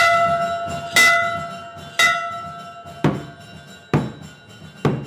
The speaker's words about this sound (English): Bells ring at a Taoist temple across from a mosque blaring the Muslim call to prayer.